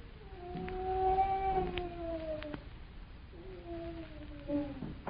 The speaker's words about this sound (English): someone's in there. That was a human being moaning.